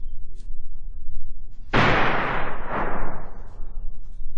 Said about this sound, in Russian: Но все-таки в лесу кто-то выстрелил. Кто? Зачем? В кого?